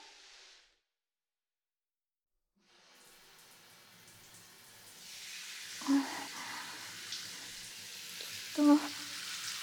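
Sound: shower water running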